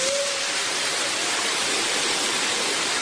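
Steady, dense rush of water pouring over a small artificial waterfall about 5 meters tall in a botanical garden, loud, a continuous hiss with no pauses and no voices.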